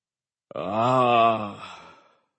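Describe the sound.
A single drawn-out voiced gasp that swells into a low, strained groan, then trails off into a breathy exhale: the death gasp of a stone giant stabbed in the chest with a bayonet. Fairly loud, with no other talking.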